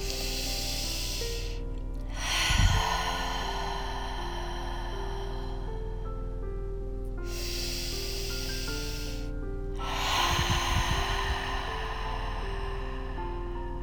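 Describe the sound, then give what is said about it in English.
Slow, deep breaths drawn in and let out in long audible sighs, three in a row with brief pauses between, taken together during a guided meditation, over a soft sustained musical drone. “And together we'll take three more of those big breaths in with audible sighs out. Breathing in.”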